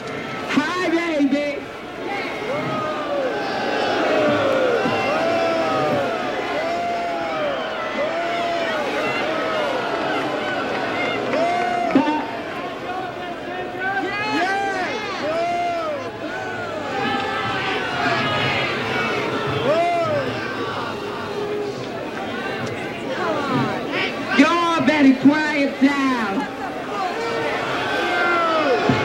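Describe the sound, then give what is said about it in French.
A large crowd at New York Pride boos and jeers loudly and continuously as a woman begins speaking into a microphone after the march, many voices shouting over one another in a dense, sustained roar that swells in places without letting up. “Et quand elle commence à parler, elle se fait huer par la foule.”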